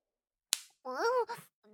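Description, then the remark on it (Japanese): A single sharp slap of an erect penis on a woman's cheek rings out, followed by a short rising and falling vocal sound and a brief further voice. “あ、チンポ様が、私のほっぺた、ペチペチ叩いちゃってます。”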